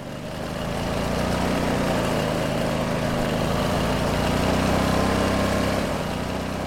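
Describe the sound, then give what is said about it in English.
A very small Chinese electric scooter hums steadily while being ridden, its motor drone holding an even pitch with a faint rise in loudness midway and slight wobble near the end. “I present to you the very small Chinese electric scooter.”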